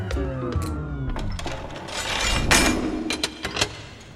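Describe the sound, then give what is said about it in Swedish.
A power drill whines and shifts pitch as it bites into hard material, as three men drill through the ceiling of a bank vault in Alby, a suburb in southern Stockholm, in August 1992; grinding noise builds with sharp knocks and clicks scattered throughout, fairly loud. “Det är augusti 1992 och tre män borrar sig tålmodigt och fokuserat genom taket till ett bankvalv.”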